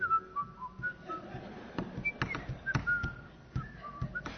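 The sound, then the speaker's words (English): A person whistles an idle, wandering tune, short notes and a few held pitches, with soft knocks and background noise underneath and no talking. “That's not waiting on the Lord. That's not with the whistling.”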